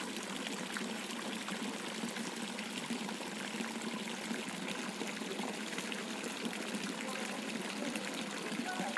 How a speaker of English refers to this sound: So there you go, that's the first fountain. Water comes from two different places. It's very nice.